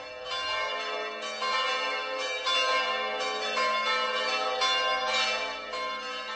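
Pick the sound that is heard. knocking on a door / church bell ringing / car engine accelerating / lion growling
church bell ringing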